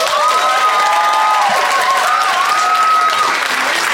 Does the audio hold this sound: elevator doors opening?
no